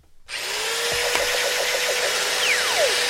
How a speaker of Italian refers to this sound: Altro che punto, un trapano.